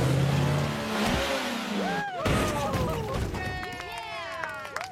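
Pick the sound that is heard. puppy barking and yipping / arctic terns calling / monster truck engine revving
monster truck engine revving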